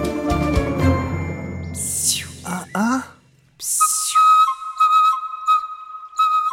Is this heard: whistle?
yes